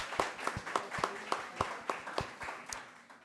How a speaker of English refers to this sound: Thank you. Let's have another round of applause for our panel.